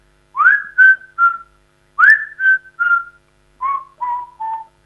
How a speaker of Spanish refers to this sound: Te puedo tirar un tip. A ver. Silbando, a ver si me sale.